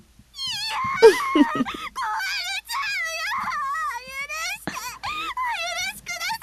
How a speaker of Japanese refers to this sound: いい声で泣いてるわね。素敵。